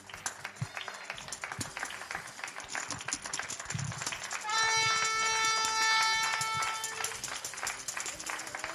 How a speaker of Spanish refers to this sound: Esos aplausos en el micrófono desde Carabanchel de ….